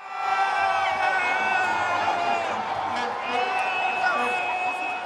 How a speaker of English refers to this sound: Hundreds of football lovers cheering their teams on to victory at Ghana's National Sports Stadium in the capital, Accra. It's the semi-final match between women teams of Cameroon and Nigeria.